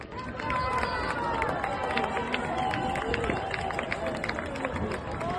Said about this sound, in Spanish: Así entre vítores y estos aplausos cruza la meta Dani Molina, que en lugar de apretar el ritmo en los últimos metros, sabedor de su ventaja, casi camina e incluso se para coger una bandera española y cruzar con ella sobre los hombros la línea de meta